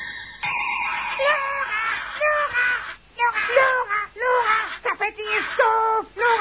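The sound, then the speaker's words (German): Loud, harsh parrot squawks repeat in quick bursts for several seconds, close and shrill, with brief gaps between the calls. “Ene, mene, nackedei, Täubchen sei jetzt Papagei.”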